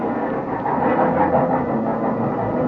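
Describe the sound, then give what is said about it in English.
The train for Chicago pulls into a station at night with a loud, steady mechanical rumble, its low engine drone continuous throughout, with no voices. “When the train finally pulled in, they walked me down to my car and stood there with me in the vestibule until the train was ready to pull out.”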